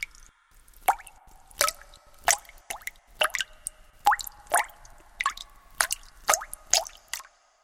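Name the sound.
water dripping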